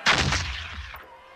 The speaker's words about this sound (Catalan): La van posar en un canó i van disparar.